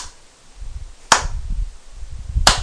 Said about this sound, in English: Your little bitch ass jiggles when I smack it, huh? That's cute.